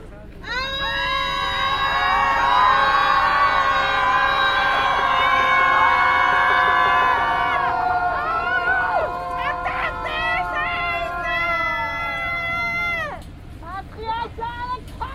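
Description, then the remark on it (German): A crowd screams together in a long, loud sustained wail, collectively releasing grief and anger, many voices layered, lasting about twelve seconds before breaking off into scattered cries and shouts that fade out. “Nun darfst du im Kollektiv einfach mal rauslassen, was gerade in deinem Körper drin ist. Ein Seufzer, ein Schrei oder einfach weinen.”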